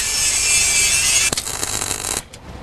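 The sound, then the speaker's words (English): A loud, steady high-pitched grinding hiss as the edges of metal are ground off to get a better weld, then rough scraping bursts with sharp crackles before it cuts off abruptly. No one speaks. “I was going to grind the edges off, so we get a much better weld.”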